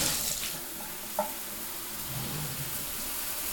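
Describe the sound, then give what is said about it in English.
Steady hiss of a bathtub shower head spraying water after being turned on, a broad continuous rush filling the space at moderate volume, with a brief faint clink near the start and no voices. “You also turn on the shower head.”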